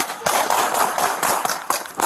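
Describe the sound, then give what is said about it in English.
A rapid series of about six sharp, sharp-edged gunshots cracks out at an uneven pace over a continuous rough, noisy background, each burst sudden and loud. “Shots fired.”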